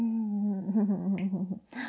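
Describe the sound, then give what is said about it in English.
A male dog whimpers in one long, high, nasal whine that wavers and breaks into quick warbling pulses, fairly loud, ending with a short breathy rustle. “Oh, let me hear you whimper.”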